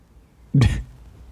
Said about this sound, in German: Der schnieft mir ins Mikrofon rein. Das kann ich auch alleine. Ja, also wenn ihr was schniefen gehört habt, der war's.